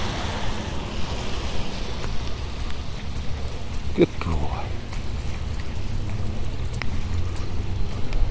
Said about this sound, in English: Getting a few spits more rain.